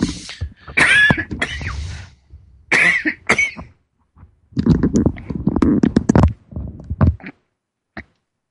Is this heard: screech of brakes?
no